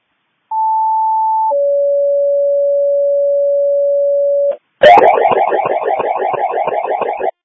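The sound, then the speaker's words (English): A fire department radio pager test alert for the Abilene Fire Department plays loudly: a short high steady tone drops to a longer, lower sustained tone, then cuts to a harsh, rapidly pulsing buzzy warble. “Can you go ahead and do another Abilene Fire test page, please?”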